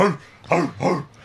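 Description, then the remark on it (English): Three short, gruff barks in quick succession, fairly loud, sounding like a person's voice imitating a dog rather than a real animal. “Just set off a whole neighborhood of I wonder dogs.”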